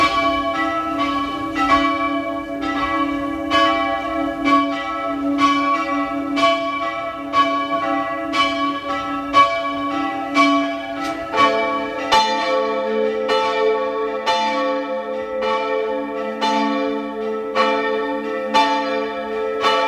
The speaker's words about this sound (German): Es ist 12 Uhr. Sie hören die Glocken der Pfarrkirche zum Heiligen Veit in Fulpmes in Tirol.